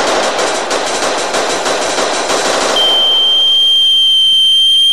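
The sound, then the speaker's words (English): A dense, crackling wash of noise gives way to a steady, loud, high-pitched sine tone at reference level that holds unwavering at one pitch until the end. “Sine wave tones at reference level.”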